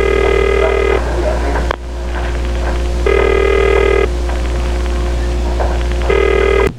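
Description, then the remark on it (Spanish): A telephone rings unanswered, three buzzy, even bursts about a second long, each separated by a pause of roughly two seconds, over a steady low hum and faint background noise. “Da timbre y no sale nadie.”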